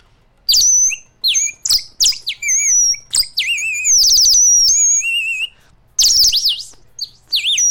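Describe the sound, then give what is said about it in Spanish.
A clay water whistle, a molded clay 'water bird' holding a few drops of water, warbles in rapid, bubbling trills and chirps, loud, imitating birdsong in quick bursts with short pauses between them. “¿Cómo se llama eso? Un pajarito de agua, así le decimos nosotros.”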